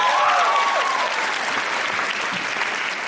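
A crowd claps steadily for an audience member who has stepped up to the microphone, in a dense, sustained round of applause lasting the whole stretch, with a brief rising whistle or cheer near the start.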